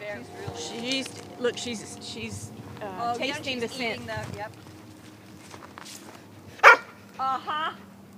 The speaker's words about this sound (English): I've walked those creeks many times looking, didn't see anything, and then this dog, Sable, just came and nailed it, found that pipe under all these leaves.